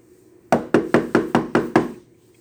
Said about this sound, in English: Jehovah's Witnesses knock on the door.